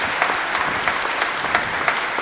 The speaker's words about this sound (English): So, yeah, that's right. He's a high school graduate, too. Round of applause.